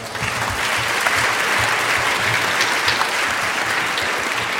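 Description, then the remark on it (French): Steady applause from a crowd welcoming a speaker on Bar-le-Duc redcurrant jam fills the whole stretch, dense and even with many hands clapping at once, fairly loud, with no voices on top. “Applaudissements.”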